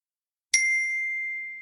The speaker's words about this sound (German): Kannst du nochmal so ein tolles Glockenspiel abspielen. Und dann posten wir so in Richtung Mikro. Ich mach das. Welchen such dir einen Ton aus? Hohes C.